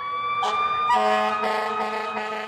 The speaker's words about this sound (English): Garth has been doing this kind of work for decades, recording everything from Pacific tree frogs in California's Sequoia National Forest to sirens wailing at the Columbus Day Parade in New York City.